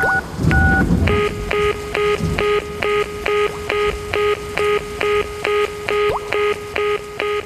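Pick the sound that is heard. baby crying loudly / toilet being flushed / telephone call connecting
telephone call connecting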